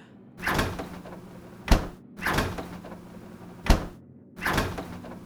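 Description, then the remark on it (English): A fridge door is yanked open and shut again and again: three whooshing swings, two of them ending in sharp, solid thumps, with no talking. “Ugh, what gives? Stupid freaking fridge.”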